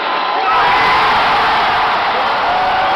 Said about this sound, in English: Save our Sonics! That chant blew the roof off that place. It was so loud in there. Reminded me of like playoff games.